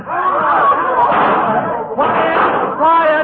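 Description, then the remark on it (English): A dense crowd of voices chatters loudly and continuously in a small hotel lobby, many people talking over one another with a steady, unbroken din and a brief dip near the middle. “Quiet, everybody, quiet. We're just getting nowhere this way. Quiet, please. Now that's better.”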